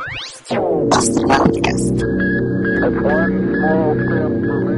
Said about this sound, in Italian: Ce l'abbiamo lì, perché non usarlo mai questo jingle. Certo. Ho fatto anche una buona prova di interferenza con jingle, perfettamente riuscita.